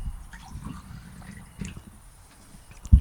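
Water runs into a drinking glass, a steady low gurgle with small splashy drips, ending in a sudden louder knock.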